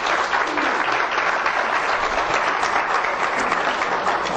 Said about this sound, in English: Ladies and gentlemen, let's welcome all those who will be watching by internet today with a wonderful hand of applause in his house.